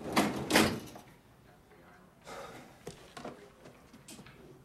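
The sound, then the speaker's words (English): A metal filing cabinet drawer in an office slides and shuts with two loud scraping bursts, followed by a few softer knocks and rustles as files are handled. “He ambles back to his office where he busies himself filing.”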